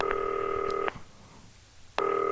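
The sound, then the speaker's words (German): A green telephone's line tone sounds in steady electronic bursts, one long tone, a short silence, then the tone starting again, like a call ringing through on the handset. Clear, with no talking. “Also kriegen wir über das grüne Telefon, erreichst du jeden.”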